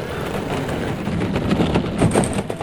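A steady, low rolling rumble of soapbox derby car wheels on pavement as the car goes downhill, continuous and moderately loud, with gritty rattling and a faint high whine toward the end.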